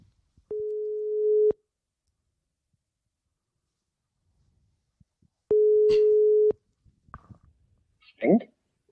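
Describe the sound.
A telephone ringback tone as a call is placed to a man: two steady, low-pitched electronic tones, each lasting about a second, separated by a long silent gap, followed by a brief burst of voice and clatter.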